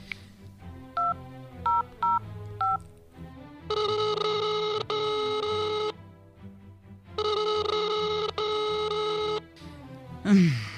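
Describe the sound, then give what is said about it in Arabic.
A quick run of telephone keypad beeps as a call is placed to the father, then two long, steady ringing tones separated by a pause, like a call ringing through on the line, fairly loud, with no one speaking. “اديدي اديلي التلفون اتصل أبوك.”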